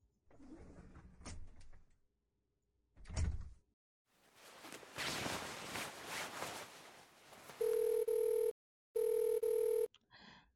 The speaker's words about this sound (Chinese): 电话，偏偏在这个时候，我衣服都脱干净了。是宝贝。他怎么这么突然？哦，对，哦，是我让他晚饭时打给我的。